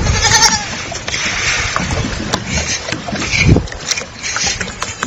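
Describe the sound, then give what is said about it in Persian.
Sheep bleat in short, scattered calls over steady rumbling boat and water noise, with clattering and shuffling as the animals are loaded at night at the seashore onto a small boat known as a tash, to be smuggled to the port of Khasab. “گوسفندان را بارگیری و به کنار دریا انتقال دادن.”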